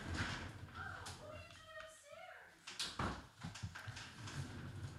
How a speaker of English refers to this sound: Sorry, everybody. My, hold on. I'm going to close the door.